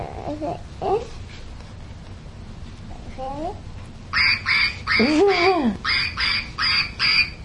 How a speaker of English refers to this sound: He said quack quack right through the tube.